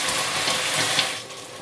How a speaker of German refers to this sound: Ich mache das schön langsam, das zischelt immer schön. Und bei dem Zischen löst sich das Angebrannte.